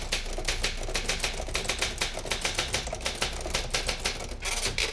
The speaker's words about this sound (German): Früher hat man das auf der Schreibmaschine gemacht und da hat man dann so in die Tasten gehauen, dass das immer so ein bisschen geknattert hat.